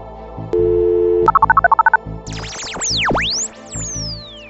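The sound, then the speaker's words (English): A phone dial tone hums briefly, followed by a quick run of about nine keypad beeps, then a series of swooping, whistling electronic sweeps. No one speaks. “So let's go to the phone, and I'll hook you up with the person who knows all there is to know about being hungry in space.”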